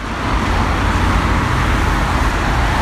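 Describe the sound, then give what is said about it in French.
A steady, loud wash of heavy road traffic on avenue du Général de Gaulle between Paris and La Défense, about 800,000 cars a day, engines rumbling low and tires hissing continuously as many vehicles stream past, with no pauses and no voices. “Au plus près du boucan, avenue du Général de Gaulle entre Paris et la Défense, ce flot de bagnoles, 800 000 bagnoles par jour.”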